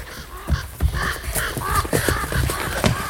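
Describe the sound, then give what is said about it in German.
At a still, empty ruin, several ravens caw harshly in overlapping bursts, their rough calls repeating over a soft rustle of wingbeats as the birds take off on seeing people arrive. “Nur ein paar Raben flatterten hoch, als sie uns sahen.”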